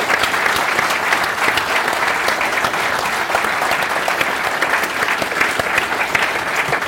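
audience round of applause

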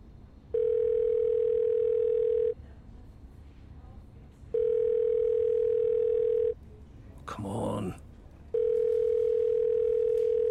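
phone ringing tone

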